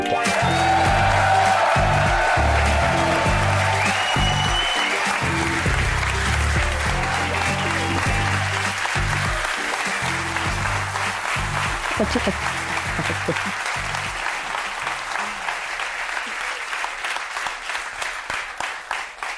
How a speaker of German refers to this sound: Ein krasser Applaus, habe ich gar nicht mitgerechnet.